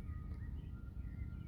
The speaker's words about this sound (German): Dass die Stimmen der Vögel immer mehr werden.